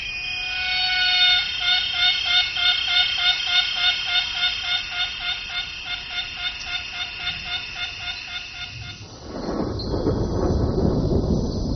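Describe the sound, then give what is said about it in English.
A loud, rhythmic insect chorus of a six o'clock cicada pulses steadily for about nine seconds, its rapid repeated trills ringing out before giving way to a broad, rushing wash of noise. “Many singers stick to precise schedules, and right on cue, the 6 o'clock cicada.”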